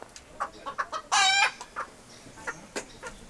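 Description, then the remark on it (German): Chickens cluck in a busy, irregular flurry of short calls, with one louder, drawn-out squawk in the middle standing out above the rest, as a farmer feeds chickens and pigs on an organic family farm. Nobody speaks. “Maikon schaut zu seinem Vater Valdir hinüber, der gerade Hühner und Schweine füttert.”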